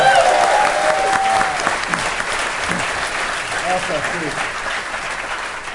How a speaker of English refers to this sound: So, round of applause for the Skeptic track, right?